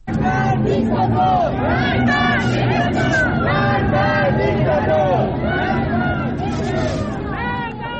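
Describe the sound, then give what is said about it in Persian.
A large protest crowd in Tehran, Iran, around Azadi Square chants anti-government slogans in unison despite the presence of military forces, many voices rising and falling in a steady, rhythmic cadence, loud and continuous throughout with a dense babble underneath. “در تهران تجمعات در اطراف میدان آزادی برپا شد و معترضان به رغم حضور نیروهای نظامی و شلیک گلوله‌های ساچمه یا گاز اشکاور شعارهای علیه حکومت سر دادند.”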